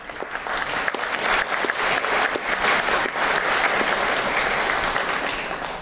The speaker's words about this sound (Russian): Спасибо за ваши аплодисменты.